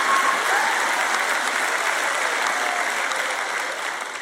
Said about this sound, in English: See, you're not clapping as loud as you were for some of the other stuff.